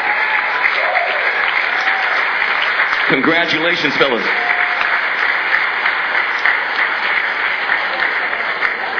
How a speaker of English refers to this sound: A final round of applause. Ah, yeah.